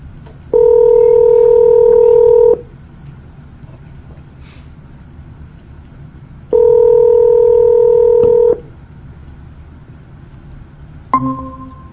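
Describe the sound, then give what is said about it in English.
Telephone line tones as a call is placed: two steady, loud electronic tones lasting about two seconds each, separated by a few seconds of quiet line hiss, followed by a brief click near the end. No one speaks. “let me call”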